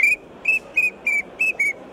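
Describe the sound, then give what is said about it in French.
A wigeon duck whistle call sounds six short, clear, high whistled notes in a quick, fairly even rhythm. They are loud, with no talking. “Le canard siffleur.”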